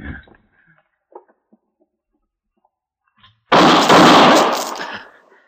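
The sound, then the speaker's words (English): After a few faint, scattered knocks, a single loud gunshot, fired by Hawkins as Matt Dillon and Tom Smith call at his door, bursts out with a sharp attack, then a harsh roaring tail that fades over about a second and a half. “How did you know he was going to shoot, Matt?”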